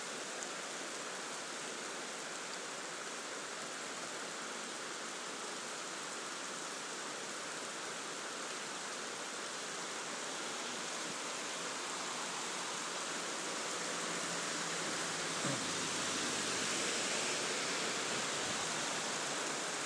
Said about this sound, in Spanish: Bueno, pues ahora que no hay tráfico y da la casualidad de que ahora aprieta la lluvia, así es como cae en este momento y está apretando.